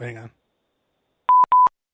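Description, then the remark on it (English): Two short, crisp telephone keypad tones sound loudly in quick succession as someone dials a phone call, after a brief snippet of a voice at the start. “Let me get these ruffians on the phone.”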